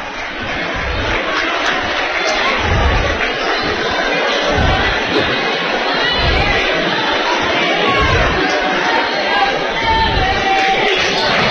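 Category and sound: crowd, basketball fans applauding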